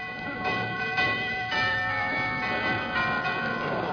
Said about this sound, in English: Oh, well, I'll have to go in alone. I'll ring the doorbell.